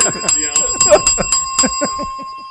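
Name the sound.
bell ringing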